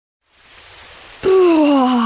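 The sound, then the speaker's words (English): A steady hiss of falling rain on a foggy island rises out of silence, then a loud, wavering tone slides slowly downward over it, like a low moan or sigh. “It's raining.”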